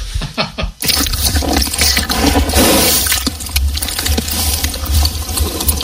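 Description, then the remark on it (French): A horse drinks water: steady, loud sloshing and slurping with splashy gurgles running continuously for several seconds after a brief opening burst of clicks, with no voices. “C'est un cheval? Ouais.”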